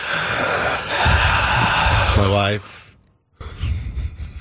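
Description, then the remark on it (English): Loud, close heavy breathing with noisy, breathy exhales and a rising gasp-like intake, a brief moment of silence, then the heavy breaths resume. “My wife, Hannah, will sometimes just shoot me a look, and I go, "Oh, must be breathing heavily."”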